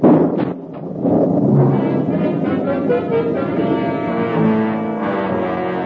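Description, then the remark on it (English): A lightning strike hits a tree during a storm: a loud, deep thunder crash bursts in at once and rolls on as a heavy, booming rumble for several seconds, with no voices over it. “a streak of lightning seared its way from a cloud and struck Little Tree with a mighty crash”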